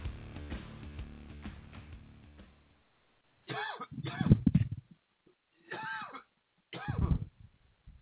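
A man coughs several times in short harsh bursts, with pauses between fits, following a few seconds of music fading out.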